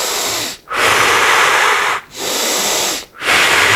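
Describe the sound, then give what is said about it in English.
Deep belly breathing with sound made on the exhale: long loud breaths with a raspy, wheezy edge, broken by three brief pauses between them, with no talking. “Make some sound on the exhale.”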